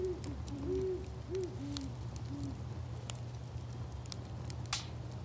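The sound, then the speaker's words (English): Several soft, low owl hoots call in a loose rhythm in a backyard at night while a fire is going, over a steady low hum and faint crackles and pops, with no voices present. “We had some owls in our backyard while we had the fire going. And here's what it sounded like.”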